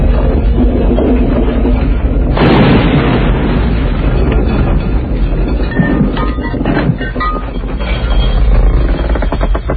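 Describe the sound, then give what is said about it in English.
A loud, steady low rumble of an underground mine fire, burning since 1926, fills the air, then a sudden deep boom bursts in at once, followed by continued heavy roaring and crackling that never lets up. “Just a mine fire, burning since 1926.”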